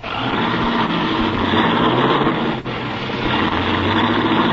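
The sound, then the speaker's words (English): A car engine roars loudly and steadily, a dense mechanical rumble that barely changes over a few seconds, as the car revs hard and pulls away in a hurry. “Golly, he's certainly in a hurry. With them brakes the way they are, he'll kill somebody if he ain't careful.”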